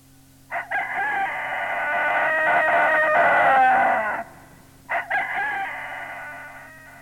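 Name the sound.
rooster crowing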